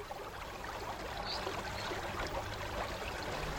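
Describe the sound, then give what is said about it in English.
The River Ebble flows steadily at Cumbisset, a continuous rushing babble with bright splashing detail and no voices, holding an even loudness throughout. “I'm Peter Berenius, and we're at Cumbisset on the banks of the River Ebble.”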